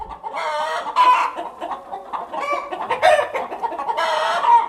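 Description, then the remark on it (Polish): A crowd of hens in a chicken coop clucks and squawks continuously, overlapping calls rising into louder bursts every second or so, with no voices over them. “No to cicho kury.”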